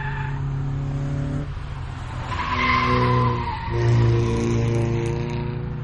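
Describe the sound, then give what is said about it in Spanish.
Car tires screech loudly as a vehicle brakes hard, a sustained squealing wail over a low engine drone that swells twice across a few seconds, with no voices. “A ver si te atropella un coche.”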